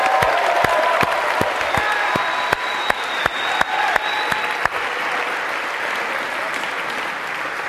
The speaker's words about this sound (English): This year's Fall 2010 Teaching Fellows and Course Assistants. If we could, a big round of applause for them.